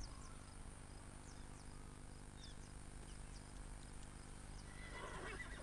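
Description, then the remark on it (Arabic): A herd of wild horses descended from the original Andalusian horses whinnies on the plains over a steady low outdoor rumble, with a louder neigh near the end and crickets or insects chirping faintly throughout; no one speaks. “إن قطعان الخيول البرية التي تجوب السهول اليوم متحدرة من الخيول الأندلسية الأصلية، وعلى الرغم من أسلافها الأليفة ما زالت برية جدا.”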